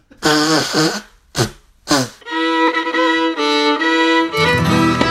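Someone blows their nose loudly with a honking, trumpet-like tone: a short blast, two quick snorts, then a long sustained honk that wavers in pitch. No one talks.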